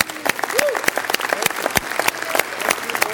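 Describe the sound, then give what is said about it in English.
A crowd claps to applaud the Lord, in steady, dense, crackling applause, with scattered voices calling out and cheering faintly within it, holding a fairly even loudness throughout. “Come on, just applaud the Lord for that.”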